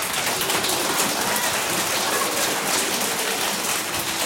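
A game show audience applauds two first-grade (CP) pupils introduced as contestants, steadily, a dense wash of many hands clapping at an even, sustained level with no voices rising above it.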